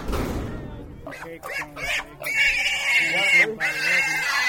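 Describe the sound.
Pigs squeal loudly and repeatedly in a shrill, wavering chorus at the start of a Greased Pig Contest at an annual festival for the old Houston School, with the clamor of a crowd of voices shouting underneath.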